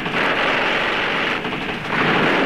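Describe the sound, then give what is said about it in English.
A loud, sustained roar of heavy gunfire, shots blurring into one dense crackling wall of noise for a couple of seconds with no voices over it. “Kelly, keep that firing going.”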